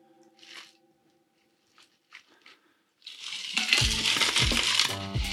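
A few light glassy clinks, then a homemade gin martini cocktail is poured into a glass, a steady splashing stream with rattling ice, fairly loud, lasting a couple of seconds. No one speaks.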